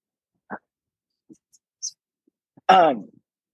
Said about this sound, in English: I'm sorry, I have to like open the whole door for my dog. Hold on.